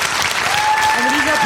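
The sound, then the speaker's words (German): Steady audience applause at a live show fills the space, a dense patter of many hands clapping at once, with a faint tonal whistle and murmuring voices mixed in beneath it. “Applaus und die tollen Geräusche.”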